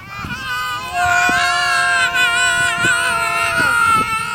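Several young classmates yell together while riding in wagons pulled by teachers onto the grass of a park, their loud, sustained, high-pitched voices overlapping and holding for about four seconds, with occasional low thumps underneath.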